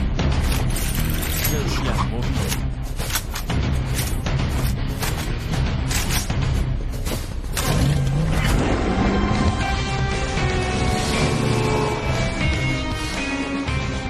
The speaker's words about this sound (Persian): اون آدم کش و بادیگارد سواری یه قایق پرسرعت همین الان بنده رو ترک کردن.